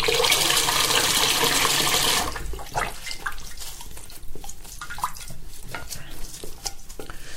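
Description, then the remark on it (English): Tap water gushes loudly into a bath for about two seconds while a dog is being washed, then cuts off, followed by irregular splashing and sloshing in the water. No one speaks. “A bit more water is needed, I think.”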